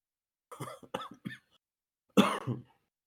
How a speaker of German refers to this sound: Ich habe gerade gehustet